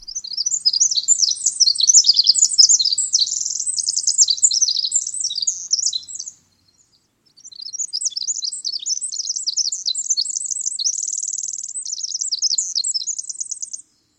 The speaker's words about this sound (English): The star of that year-end celebration was the same species we know as the winter wren, the only wren that occurs outside North America. Its songs are long and amazingly complex. Let's listen again.